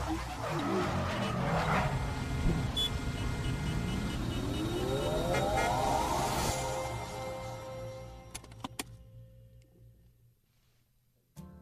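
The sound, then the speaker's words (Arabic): A classic car's engine revs hard, its pitch climbing steadily over several seconds amid loud, harsh tire-screeching noise, then fades into near silence, broken by a few sharp clicks. “لا تصيح ويلات السيارة الكلاسيكية ما تتحمل.”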